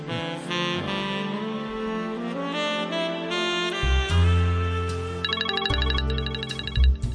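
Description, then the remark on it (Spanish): A mobile phone ringtone plays a bright, melodic electronic tune with layered tones and a thumping bass, ringing steadily and fairly loud for several seconds with no one speaking. “¿Quién me llamará al móvil a estas horas?”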